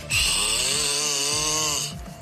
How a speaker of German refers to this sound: Liebling, hier der Beweis. Du schnarchst. Klingt schon ganz schön schnarchig.